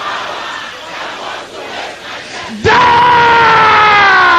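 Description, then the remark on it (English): A crowd of many voices shouts a prayer together in unison, building from a murmuring roar into a sudden, loud, sustained collective yell that fills the space. “Shout it louder than that.”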